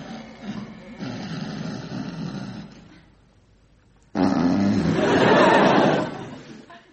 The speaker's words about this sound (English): he paused, gently, oh so gently, opened the door and crept in to see his father's uneasy snoring.